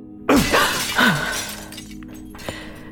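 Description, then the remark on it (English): Mirror glass shatters in a bathroom in a sudden loud crash, followed by a tinkling spray of shards onto the floor that fades over a second or so, with one last small piece clinking down shortly after. “There is no mirror. Be quick. Careful of glass on the floor.”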